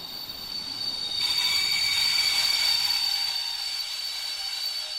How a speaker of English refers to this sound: This is platform number 3 at Weimar railway station.